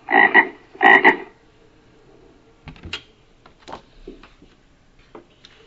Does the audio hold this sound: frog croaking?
yes